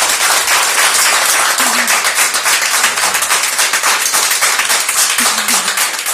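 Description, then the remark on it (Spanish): Sustained applause from a sizable crowd of neighbours at Hospital Domínguez in Pontevedra for the first coronavirus patients discharged, dense overlapping clapping that stays loud and steady throughout, with a few faint voices calling out underneath. “Casi podemos escuchar desde aquí, desde nuestra emisora de Joaquín Costa en el centro de Pontevedra, cómo resuenan los aplausos de nuestros vecinos del Hospital Domínguez, aplausos que le dieron a los primeros pacientes dados de alta por coronavirus.”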